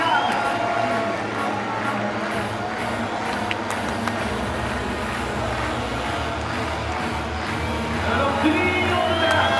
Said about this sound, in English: Three laps to go. The crowd are really getting into it as well. They can sense the home win here,